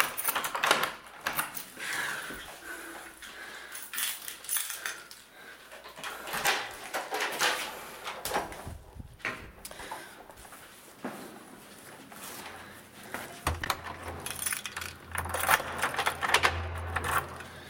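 Keys jingle and clatter while someone rummages for them, a busy run of small metallic clicks and rustling that rises in bursts and continues throughout, with no voices.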